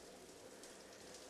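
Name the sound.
shower water spraying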